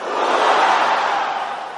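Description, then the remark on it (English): An audience roars together in one sustained, loud, dense wall of voices, swelling briefly and then holding steady for almost two seconds before easing slightly at the end. “Roar!”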